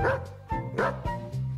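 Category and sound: animal, dog barking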